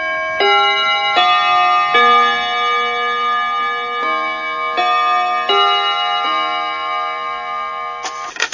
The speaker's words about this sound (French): au carillon de Radio Bonheur et sur les montres qui marchent, il est 11h.